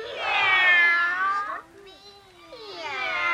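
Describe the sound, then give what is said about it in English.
Girls' voices imitate a kitten, giving a long, high, wavering meow followed by a softer pause and another rising meow, fairly loud. “Can you girls meow like that?”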